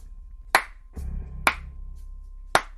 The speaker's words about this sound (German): Und mitten in der angespannten Ruhe ertönt ein sarkastisches Klatschen.